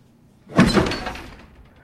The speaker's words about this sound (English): Looking alarmed, she whips open the bathroom cabinet.